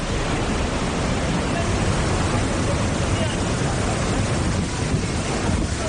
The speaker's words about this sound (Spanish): Así suena el aliviadero del embalse de Alcorlo. Está soltando agua a buen ritmo. Ahora mismo, la última actualización deja el embalse lleno a un 92,3% de su capacidad.